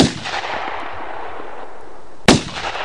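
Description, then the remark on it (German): Two loud gunshots during a hunt, shooting two wild ganders that fall dead into the reeds: the first at the start and the second just over two seconds later, each a sharp crack followed by a long rumbling echo that slowly fades. No voices. “Pief, paf, ertönte es, und die beiden wilden Gänseriche fielen tot in das Schilf nieder.”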